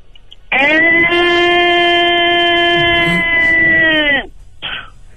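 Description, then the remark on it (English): A person imitates a whale call with one long, loud, steady vocal tone held for about four seconds, sliding slightly lower at the end, then a brief softer sound follows. “Okay, I'm going to do a whale.”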